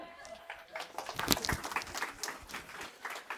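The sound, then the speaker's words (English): An audience claps in a steady, moderately loud patter of many hands, swelling briefly near the middle before settling back to an even ripple of applause. “How are you clapping for that?”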